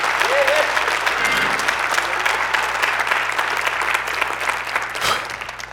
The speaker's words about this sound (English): I see y'all at Royal Palm just shouting and cheering because God's good to you.